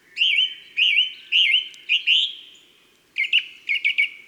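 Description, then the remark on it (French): A song thrush sings loud and clear in the countryside, repeating a bright whistled phrase three times, then moving to a new phrase delivered in quick repeated bursts. “Dans la campagne, tôt le matin ou tard le soir, on entendra la grive musicienne.”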